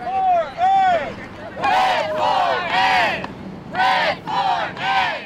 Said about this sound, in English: In sub-freezing temperatures, about 30 teachers outside Oaklawn Language Academy held up homemade signs and chanted slogans at buses and passing cars.